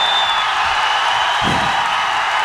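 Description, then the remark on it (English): A concert audience cheers on cue from the stage so it can be recorded, loudly in a dense, steady roar of shouts and whoops that holds for the whole moment, with a thin high whistle briefly riding on top at the start. “Everybody start cheering.”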